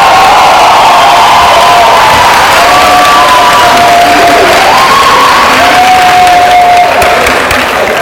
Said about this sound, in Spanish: Un increíble aplauso a Joshua.